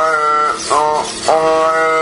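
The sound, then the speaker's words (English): A robotic mouth that replicates human speech with an air pump for lungs, a silicone tongue and 8 artificial vocal cords produces a loud, buzzy, droning voice that sounds vaguely like speech, holding steady vowel-like tones and shifting abruptly twice into new wavering syllables, with no actual words. “It's physically replicates human speech using an air pump for lungs, a silicone tongue, and 8 artificial vocal cords.”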